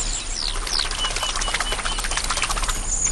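A large flock of thousands of migrating birds, travelling between Europe and Africa, flaps its wings over fields in a dense, continuous flutter, mixed with scattered high chirps and calls, steady and fairly loud throughout with no voices.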